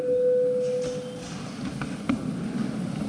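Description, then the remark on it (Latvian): A single steady electronic bell tone, rung in a parliament session before a vote, sounds clearly for just over a second, then stops, leaving quiet murmur and faint shuffling. “Paldies, lūdzu zvanu.”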